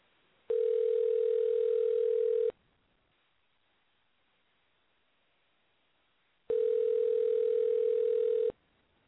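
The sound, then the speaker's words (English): An outgoing phone call's ringback tone, a call to baseball players for an interview: two steady, mid-pitched buzzing rings, each about two seconds long, separated by a four-second silence. No one speaks. “We're ringing.”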